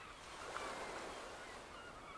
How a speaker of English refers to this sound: Listening to the sea. Feeling so alive.